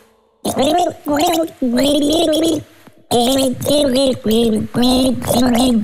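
A person gargles the melody of a hit song for a Radio Regenbogen morning-show guessing game, with throaty bubbling notes rising and falling in a tune-like rhythm across several loud phrases separated by short pauses.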